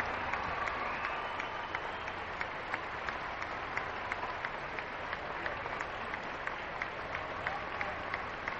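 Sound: crowd applauding and cheering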